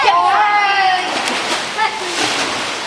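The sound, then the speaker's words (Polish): Children shout and squeal while water splashes and churns, a few sharper splashes breaking through as kids jump into a swimming pool during a children's swimming training session, all lively. “Rykamy do wody i każdy poniesie sobie jeden basen, jak chce.”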